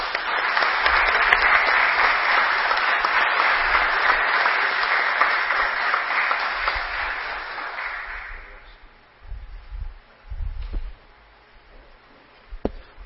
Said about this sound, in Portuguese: Gostaria aqui, mais uma vez, de quebrar o protocolo e pedir a todos uma salva de palmas a todos os presentes, principalmente a vocês, atiradores.